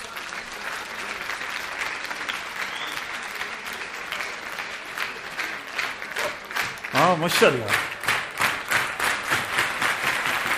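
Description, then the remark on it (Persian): A large audience at a conference applauds themselves steadily throughout, the clapping swelling into a rhythmic, pulsing beat toward the end, with a man's voice speaking briefly over it. “خودتون رو تشویق کنید لطفاً.”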